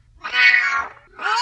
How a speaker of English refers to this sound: He does. He's like, meow, meow, meow, meow.